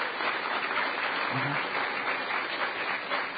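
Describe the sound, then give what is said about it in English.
A conference audience applauds the vendors on the second floor, many hands clapping at once in a dense, even wash of sound that holds at a constant loudness throughout, with no voices standing out. “Could we get a huge round of applause for all of the vendors who are on the second floor this year?”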